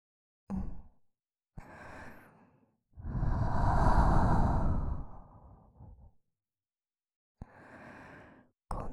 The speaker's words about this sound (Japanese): 先ほどよりも生温かい吐息です。息の届く距離は短いですが、その分お耳が包み込まれているような心地よさがあって、脊髄の芯まで響く吐息全面。